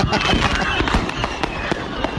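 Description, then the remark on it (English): Rapid bursts of fireworks crackle and bang in quick, overlapping succession inside the trunk of a Dodge Charger car after a lit firework was thrown into it on New Year's Eve, loud, with a dense, continuous clatter of explosions throughout. “And someone walks up and throws a lit firework into the car, and the car explodes because the fireworks are shooting off inside the car.”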